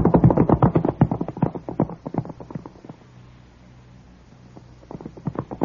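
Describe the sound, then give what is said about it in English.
Horse hooves of several riders setting off in pursuit of a fleeing rider gallop in a rapid, loud drumming rhythm that fades off into a lull of quiet rumble, then the pounding hoofbeats return toward the end. “Come on, boys, after him. Let's ride.”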